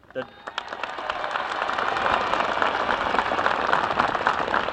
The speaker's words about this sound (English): If you would, please, would you hold your applause until the entire list is read, as we must move along as expeditiously as possible, please.